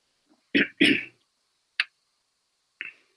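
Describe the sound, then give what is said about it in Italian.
Two quick, harsh coughs in quick succession, followed by a short throat clear and a faint final cough, with no talking. “È chiaro che è riferito alla mia tosse.”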